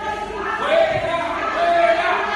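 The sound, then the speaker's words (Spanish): Hospital staff booing at Cruces hospital in Vizcaya, Basque Country, Spain, where Lehendakari Íñigo Urkullu was met with it this morning: a dense, sustained roar of many voices with long wavering tones that swell twice over a couple of seconds, with no clear speech on top. “Abucheos de los propios sanitarios en el hospital de Cruces, en Vizcaya, en el País Vasco.”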